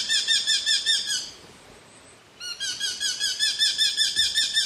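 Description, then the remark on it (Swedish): A Eurasian hobby calls in rapid, high-pitched repeated notes, a sharp chattering series that pauses briefly before resuming at the same quick rhythm, with no one talking. “Och när vi pratar rovfåglar som påminner om hackspettar så måste vi nämna lärkfalken också.”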